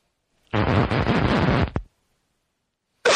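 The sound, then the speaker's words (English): A harsh, drawn-out cough bursts out and lasts about a second, then stops. After a short silence, another rough sound starts right at the end. “Oh, give me a second. I got a cough.”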